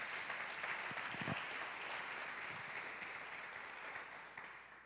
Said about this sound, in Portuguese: Dá mais um aplauso ao Senhor, então, vai.